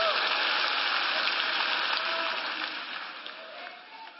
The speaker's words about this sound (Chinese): 拍手欢呼。